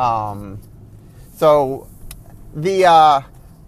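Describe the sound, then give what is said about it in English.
A voice imitates a car driving, made while actually driving to work, with three loud revving bursts: a longer droning one, then two short rising-and-falling vroom sounds separated by brief pauses. “If you actually listen to like, I do a very good sound of doing the sound effects because I'm actually driving to work.”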